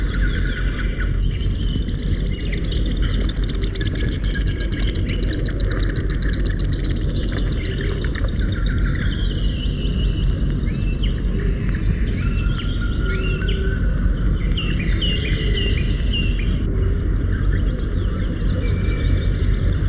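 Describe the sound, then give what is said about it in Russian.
Shrill, high whistling calls of common sandpipers flying just above the water repeat in quick bursts over a steady low rumble of water, with other bird chirps scattered throughout. “пронзительным свистом над самой водой проносятся курики-перевозчики.”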